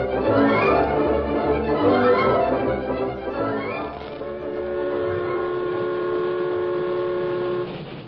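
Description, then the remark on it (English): A wood-burning steam train from Colfax chugs past the Blue Sage Hills onto windswept prairie with loud, rhythmic rattling and chuffing, then a long steady steam whistle blows for several seconds over the running engine before cutting off. “The train from Colfax, drawn by its snorting, wood-burning engine, rattled past the last spur of the Blue Sage Hills and settled down to the final 30 miles of windswept prairie that lay between it and its destination, River Junction.”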